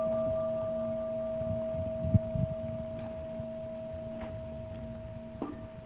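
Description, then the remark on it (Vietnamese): A Buddhist temple bell, rung during a ceremony as the signal to bow down, rings on with a steady, sustained tone, its layered low and mid hum holding evenly throughout, with a few faint knocks and rustles underneath. “Chúng ta nghe tiếng chuông và lễ xuống.”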